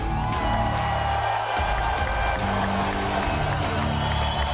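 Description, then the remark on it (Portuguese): An audience claps and cheers steadily for several seconds at the opening of the Battle Royale edition of the show Inquérito, a dense wash of applause with scattered whoops and crowd noise at an even, fairly loud level throughout. “Batam palmas, faz favor.”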